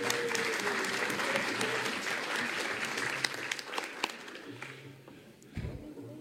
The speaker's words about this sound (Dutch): Mag ik even danken voor het applaus? Heel erg aardig.